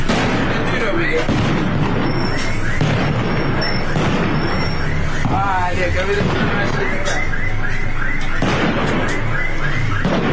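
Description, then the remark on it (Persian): Rapid, continuous gunfire and loud blasts crackle, mixed with whistling shrieks and a shouting crowd in a dense, chaotic din that never lets up, during a protest gathering in Sanandaj, Iran, on Sunday evening as protesters light fires. “تصاویر و ویدیوهای رسیده از سنندج از تجمع معترضان و روشن کردن آتش در شامگاه یک شنبه و صدای ممتد تیراندازی و انفجار حکایت دارند.”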